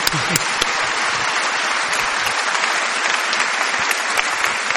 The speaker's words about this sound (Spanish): Hay que aplaudir a Alberto Camus, por favor.